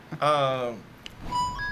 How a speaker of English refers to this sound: He's blowing into his phone. And listen to the echo tone of it. It really does sound like a pan flute or something, you know? I'm whistling and trying to play at the same time.